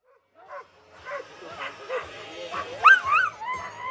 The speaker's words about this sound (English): Some bark, others howl. They even moo. Like humans, they have different voice.